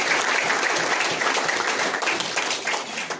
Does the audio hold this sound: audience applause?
yes